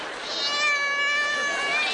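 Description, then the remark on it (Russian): A cat meows in one long, drawn-out, plaintive cry lasting about two seconds, steady, with no other sounds around it. “По душе кошки скребут.”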